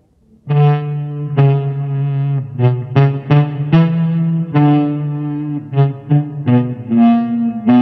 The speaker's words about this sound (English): Slap the Ebow into position over the hot spot and quickly glide it away from the pickup in a reverse bowing stroke.